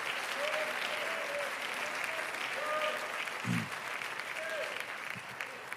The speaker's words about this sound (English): Come on, somebody, and clap your hands if you feel what I'm feeling right here, right now.